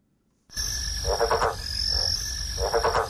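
A yellow-spotted bell frog calls in short croaking bursts, two or three pulsing calls over a steady backdrop of high insect-like buzzing and ambient noise, moderately loud.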